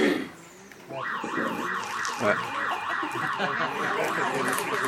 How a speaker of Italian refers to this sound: Non ti puoi spegnere? No, perché l'allarme è collegato alla mancanza di elettricità.